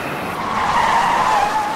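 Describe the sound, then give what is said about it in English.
A car's tires screech in a sustained, loud skid lasting nearly two seconds, the high squeal wavering slightly as the car speeds into Meadow Lake, raising dust, and slides to a halt at a church. No voices are heard. “A car speeds into Meadow Lake and raises dust as it skids to a halt and pulls up at the church.”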